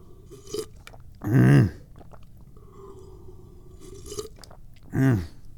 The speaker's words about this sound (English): But let's take the last sip of this tea.